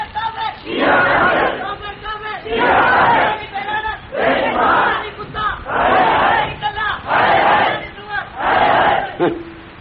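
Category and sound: crowd, crowd chanting slogans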